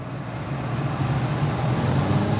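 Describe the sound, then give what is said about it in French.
A car engine revs steadily in second gear after a downshift from third, its deep, throaty drone swelling slightly louder as the car accelerates, with a constant road rumble underneath and no voices. “Alors, il faut rétrograder en deuxième et bien lancer la voiture.”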